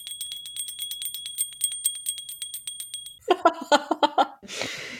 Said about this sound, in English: Yeah, ring the bell there. Ring the bell.